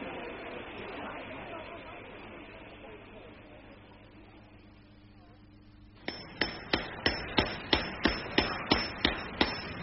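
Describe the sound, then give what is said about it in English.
A blacksmith's hammer rings out on an anvil at his forge while it is raining, in a steady, brisk rhythm of about a dozen sharp metallic blows, following several seconds of dull, hissing background noise. “By all means, come and dry yourselves by my forge.”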